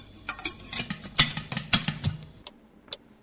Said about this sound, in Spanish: El tercer paso es mezclar el agua con una cuchara limpia.